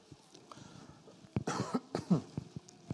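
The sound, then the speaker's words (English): A person who has had a cough for three or four days coughs a few times in quick, harsh bursts, fairly loud, with a brief throat-clearing sound between them and quiet background otherwise, during a Bible reading. “Along with all the other stuff going on, I don't hardly ever get a cough, but I've had a cough for the last 3 or 4 days, and it is annoying the heck out of me.”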